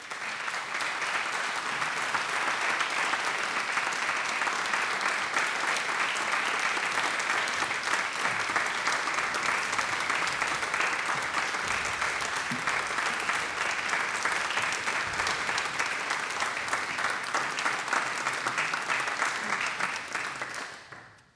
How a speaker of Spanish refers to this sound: Dicho esto, les invito a que con un fuerte aplauso les demos la bienvenida a nuestros artistas.